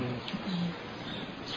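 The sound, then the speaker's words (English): A mother bird sitting on her eggs in a plant pot outside a window coos softly in low, throaty tones, two short coos over a steady background hiss. “No, you come to the window and look at the mother bird, and she's looking at you like, don't you dare come near me, because I got little eggs underneath me, and you better watch out.”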